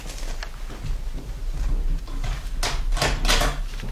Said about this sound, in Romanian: Bate cineva în ușe, bunică Nokomis? Descuie și poftește-l să intre.